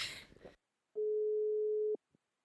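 A single steady telephone ringback tone from a phone call being placed holds for about a second at a constant mid pitch, cut off with a click, after a brief burst of noisy rustle at the start.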